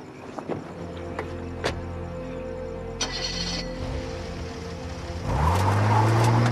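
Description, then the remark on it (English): A car engine idles with a few clicks and knocks, then revs up loudly and rises in pitch as Michael Jr. accelerates and drives away, with no one talking. “Michael Jr. drives off.”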